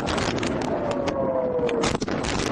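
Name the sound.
air raid warning sirens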